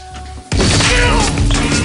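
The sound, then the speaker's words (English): A sudden loud crash at about half a second, as a man's fist punches through a wooden bathroom door, followed by sustained splintering, banging noise and scuffling as two men tussle. “The stranger punches through the door and they tussle again in front of the terrified naked woman.”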